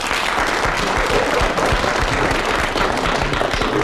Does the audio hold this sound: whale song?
no